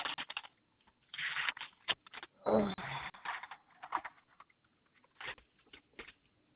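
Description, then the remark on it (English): Pieces of paper being shuffled and flipped through while looking for insurance policy information, in a string of crisp, irregular rustling bursts, some louder and some softer, with short pauses between them and no voices. “Maybe it's on one of these pieces of paper because I didn't ask.”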